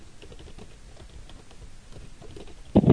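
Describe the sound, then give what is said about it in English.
A woman shuffles furniture around: a steady patter of soft knocks and rustling, then two louder, heavier thumps near the end. No voices. “Sounds like she's shuffling the furniture around.”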